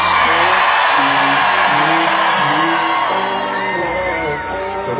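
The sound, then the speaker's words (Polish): A large concert crowd in Kraków roars continuously, a dense wash of shouts, whoops and cheering voices that stays loud throughout, easing slightly toward the end. “Bardzo nie jest hałas, który ja znam z Krakowa.”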